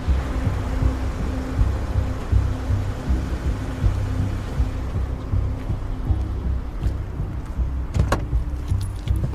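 A steady low engine rumble from an idling car, then near the end a few sharp clicks and clunks of a car door opened and shut as a man gets out of his own car and into another car.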